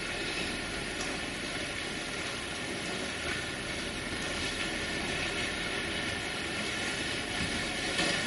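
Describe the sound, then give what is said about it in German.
Steady rain falling outside makes a dense, even hiss that holds at the same level throughout, with no voices and no break in the sound. “Und im nächsten Atemzug über den Raum raus zum Regen.”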